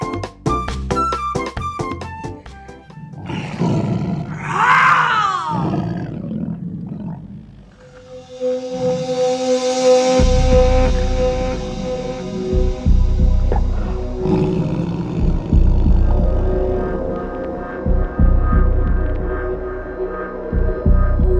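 A tiger lets out one loud, rising-and-falling roar, after which a deep, throbbing rumble and steady humming tones carry on to the end. No one speaks.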